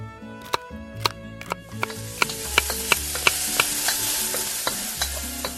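Beef marinated in soy sauce, sesame oil, pepper and rice wine sizzles and crackles steadily with water in a hot pot as it is stir-fried, while a utensil scrapes and clacks against the pot in irregular strikes, fairly loud, with no talking.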